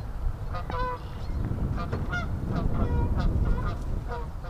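Canada geese honk repeatedly in short, nasal bursts over a steady low outdoor rumble, several birds calling in an uneven overlapping chorus in a marsh.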